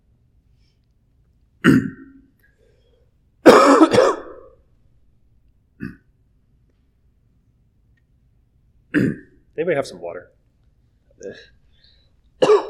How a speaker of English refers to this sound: Recovering from a cold, so it triggered a coughing fit.